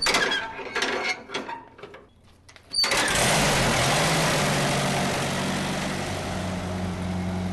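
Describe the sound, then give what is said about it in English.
The engine of a 1931 tractor with a hand crank sputters and coughs in uneven bursts for a few seconds, then catches and settles into a loud, steady, rumbling roar that runs to the end. “And so you've gotten this one running? Oh, yes. Oh, it runs like a top.”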